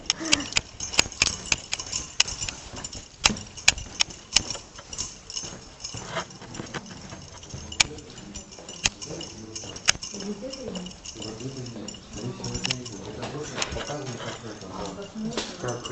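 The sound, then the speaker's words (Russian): A bunch of about 300 keys jangles and clinks in sharp, irregular bursts as someone tries one key after another, with people talking quietly in the background. “Капец. 300 ключей.”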